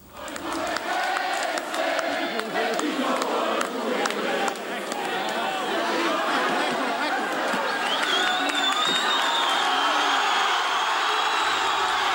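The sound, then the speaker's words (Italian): A large, agitated, spontaneous crowd shouts and jeers in front of the Hotel Raphael, where Bettino Craxi resided, on the evening of 30 April 1993, in a dense, continuous roar of overlapping voices, loud throughout, with no single speaker standing out. “Lì davanti si radona una folla spontanea, non è una manifestazione organizzata, è indignazione pura.”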